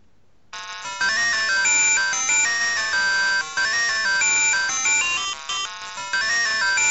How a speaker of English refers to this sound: that last one was from a computer game called Whizball that was released on the Atari ST. And that was the contents of my ringtone folder